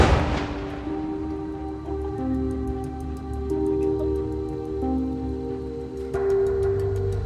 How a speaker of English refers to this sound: The sound of this explosion, that the force of it is surprising. It's impressive. Imagine this car tire and wheel just shooting 30 meters, like 100 feet in the air.